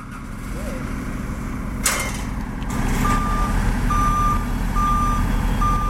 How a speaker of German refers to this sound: Ihr Ziel? Das Geothermie-Areal im Sittertobel. Neben den Haufen Büro- und Stromcontainer wird dort zurzeit der Bohrturm und die ganze Anlage rundherum aufgebaut.